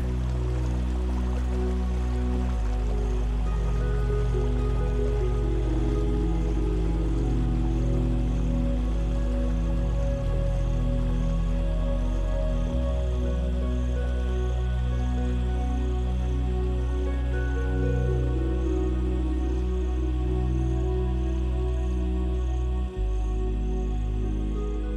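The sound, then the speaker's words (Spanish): A steady stream of water runs and trickles continuously at a soft, even level as a brook flows past at night under the moon, with a low, sustained hum beneath it and no voices throughout. “La corriente brilla bajo la luna, reflejando pequeñas luces titilantes, como si las estrellas se posasen sobre el agua.”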